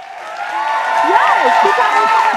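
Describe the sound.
An audience applauds a guest for having a realistic debt, in a steady, loud wash of clapping, with voices whooping and calling out over it for the whole stretch.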